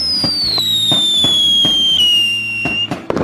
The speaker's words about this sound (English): There are the fireworks now.